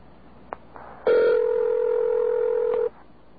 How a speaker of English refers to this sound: The phone had not yet even begun to ring when these strange sounds were heard. What they are doing is playing a recording of a ring and trying to convince you that the phone is actually ringing. You can even hear the edits.